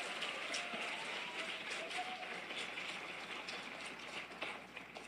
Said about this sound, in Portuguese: Aplauda, é para Ele, bem forte.